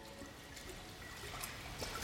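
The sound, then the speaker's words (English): Water trickles and dribbles steadily in a cave, a soft, continuous wash, with a few brief brighter splashes standing out near the end. No voices are present. “The water made this place.”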